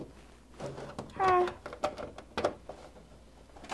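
A single short meow from Pepper the cat rings out clearly, surrounded by scattered rustling and light knocking sounds.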